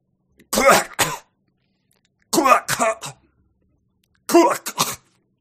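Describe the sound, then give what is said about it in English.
A person lets out three sharp, hacking cough-barks, each a quick double burst, spaced with short pauses, loud, a voice mimicking the startled coughing bark of a dog that has eaten a bee, used as a laugh. “Like, you know how, like, when a dog eats a bee, kind of? Yeah. Yeah. That's how I'm gonna laugh.”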